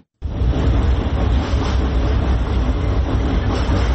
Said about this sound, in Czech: Huk tramvaja preko mosta na Savi, jednog od simbola glavnog grada, prema najavama vlasti, broji svoje posljednje mjesece.